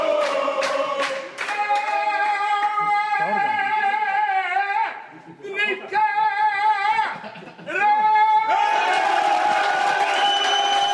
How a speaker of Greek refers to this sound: Και με ιαχές και χειροκροτήματα μπορώ να υποδεχθώ τώρα τον Τάσο Επιτρόπου.